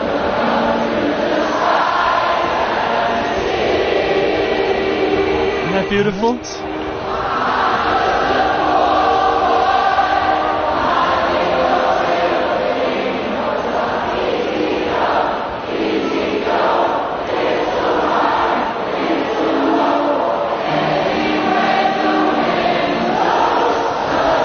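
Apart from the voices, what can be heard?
noisy crowd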